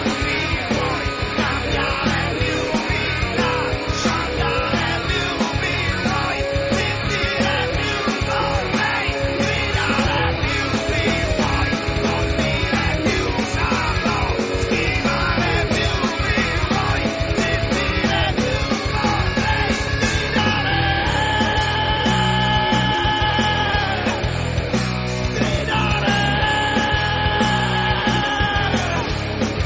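A loud, dense industrial music track plays throughout, with a pounding, driving beat, harsh distorted textures and shouted-sounding vocals, sustained at full volume with no pauses.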